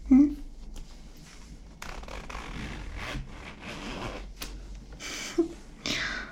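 A clothing zipper is pulled open, a rough rasping slide in a few uneven bursts, with soft rustling of fabric and faint vocal sounds in the background.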